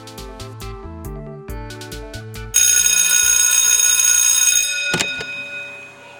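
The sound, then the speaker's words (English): A short plinking melody gives way to a loud, continuous bell ringing for about two seconds, cut off by a dull thunk, then a fading hum. No one speaks. “So, without further ado, I ring the bell and we commence the episode.”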